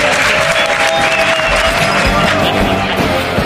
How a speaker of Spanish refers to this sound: Mira, llévate este aplauso de la gente.